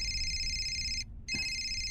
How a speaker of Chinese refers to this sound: 你电话。怎么了？谁的电话？